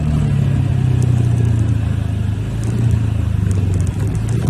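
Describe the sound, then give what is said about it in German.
A small motor scooter's engine runs, its buzzy, rattling drone holding steady with slight surges in revs, loud and continuous with no voices. “Ja, das ist der Originalsound von meinem kleinen Roller.”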